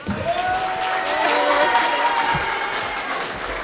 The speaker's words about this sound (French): La mise en scène jusque sur le t-shirt, vous pouvez applaudir les élèves de Niki de Saint-Phal.